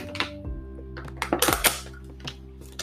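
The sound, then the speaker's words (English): Someone takes a drink of water: a few light clinks and taps of a glass, then soft swallowing noises over a steady low hum, with no talking. “Let me drink water.”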